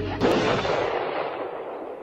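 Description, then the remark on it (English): A single loud gunshot cracks out, its sharp blast followed by a long rumbling echo that slowly fades over about two seconds. No one speaks. It is a boy shooting his own rabid dog as a mercy killing in a Disney movie. “I mean, having to shoot his own rabid dog as a merciful act.”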